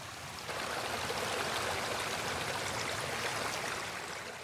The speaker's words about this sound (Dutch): Op zekere morgen komen Roberto en Nando aan een waterval.